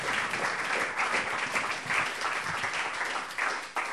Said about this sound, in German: Wir wollen einen warmen Applaus spenden, dass Sie bei uns zu Gast sind.